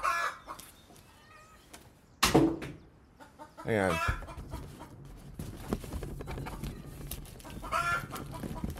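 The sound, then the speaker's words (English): A chicken clucks and squawks in loud bursts, with a sharp, harsh call standing out, while a person briefly speaks over the noisy background. “We're gonna throw at this fucking chicken.”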